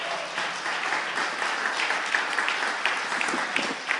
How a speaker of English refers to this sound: Come on, give the Lord a great big hand as they come to receive the offering.